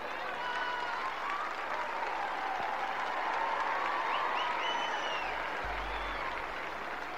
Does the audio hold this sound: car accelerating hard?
no